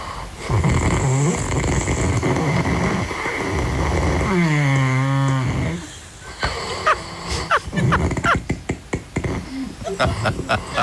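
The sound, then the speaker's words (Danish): A man snores loudly in his sleep, with long rasping breaths and a creaky, groaning tone, then a run of short, choppy snorts and sputters. “Han giver os et par lydklip fra, hvordan det lyder, når han sover.”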